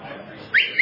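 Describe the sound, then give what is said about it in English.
A loud, piercing human whistle starts suddenly after a low murmur of background noise, holding a shrill, slightly rising tone until the end. “I learned how to whistle like that when I was 11 years old.”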